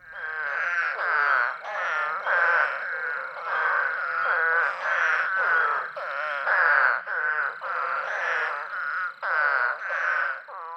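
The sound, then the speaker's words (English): An eastern spadefoot toad calls over and over, a loud, nasal groaning note repeated about a dozen times in a steady, insistent rhythm with no voices present. “If you guessed an eastern spadefoot, you're right.”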